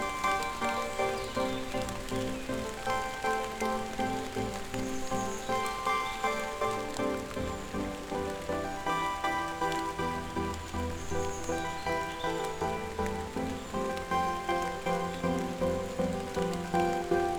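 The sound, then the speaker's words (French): Light rain falls steadily under trees in the Pyrénées-Atlantiques, a soft, continuous patter of drops on leaves and ground with no voices, holding an even, gentle level throughout. “tout doucement, une pluie fine s'écoule sous les arbres.”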